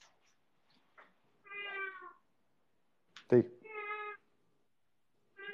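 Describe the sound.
Two drawn-out, clear cat meows a couple of seconds apart, moderately loud, with a brief spoken word between them and near-silence otherwise.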